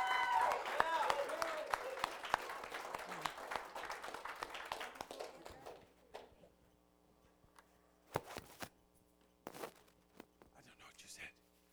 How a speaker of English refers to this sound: Applause, amen.